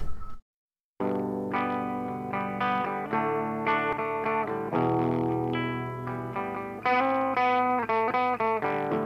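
After a brief moment of silence, a rock song kicks in with loud, distorted, chorus-laden electric guitar chords ringing out in a steady, driving rhythm. No voices are heard yet.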